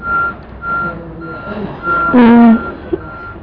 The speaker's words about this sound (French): Ça c'est un camion. Un camion qui fait marche arrière. Qui fait un bruit comme ça.